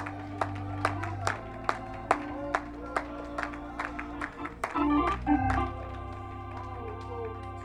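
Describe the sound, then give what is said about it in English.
An audience at a church worship service claps their hands together in a steady, even rhythm while praising God. Sharp beats repeat about twice a second over sustained, droning musical tones, with a brief swell of crowd noise near the end. “Oh, clap your hands, all you people, and shout unto God with the voice of triumph.”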